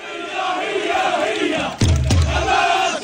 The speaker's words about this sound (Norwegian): Hamas, ut, ut, ut, roper demonstrantene mens de går gjennom den utbombede byen Beit Lahia helt nord på Gazastripen fredag.